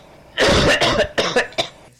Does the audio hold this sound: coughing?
yes